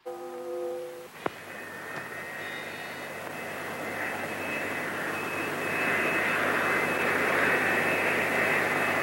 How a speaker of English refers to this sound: The plane continued flying over the airport without deciding to land.